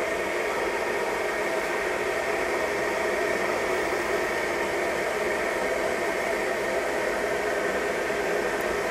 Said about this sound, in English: Right, so I've pushed that down, and this is going from cold water, so you now start to hear it boil. That's how loud it is.